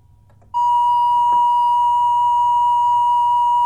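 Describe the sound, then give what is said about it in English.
A synthesizer triangle wave tone switches on after a brief moment of low hum and holds one steady, loud, mid-high pitch without change until the end. “Let me get that triangle wave again.”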